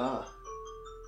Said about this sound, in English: Excuse the alarm there.